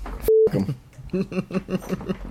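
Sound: cell phone ringing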